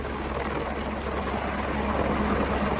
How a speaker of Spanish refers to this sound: Los trabajos desde el aire por medio de este helicóptero se completan en esta zona de la provincia de Barcelona con la labor que siguen haciendo los bomberos, los buzos y también las unidades caninas.